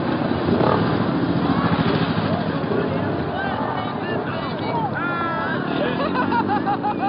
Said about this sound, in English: They made their entrance, their presence known, by roaring through the crowd on their choppers and parking the bikes around the stage.